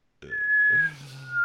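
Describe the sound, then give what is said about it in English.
Someone practising their whistle whistles a single long, steady note that holds fairly loud for about a second, mimicking a bird, with a low murmur underneath. “No, that was a bird.”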